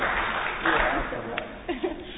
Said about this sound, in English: I just want to give her a good applause for her.